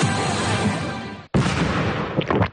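explosion sound effect

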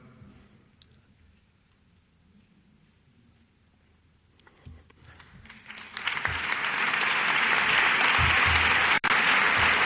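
audience ovation

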